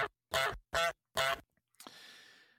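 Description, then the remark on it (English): A goose honking sound effect: three loud, nasal honks in quick, even succession, followed by a sudden bright crash that leaves a ringing, hissy tail. No one speaks. It marks Myles Garrett going for the 'golden goose'. “Myles Garrett goes for the golden goose.”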